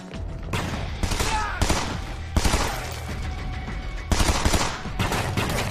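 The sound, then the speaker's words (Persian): Rapid bursts of automatic gunfire rattle continuously for several seconds, loud, with heavier volleys swelling every second or so and no voices. “تیراندازی شد. یه مأمور تیر خورده.”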